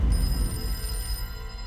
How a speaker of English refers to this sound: But at 10:41 a.m., the phone rang for a second time.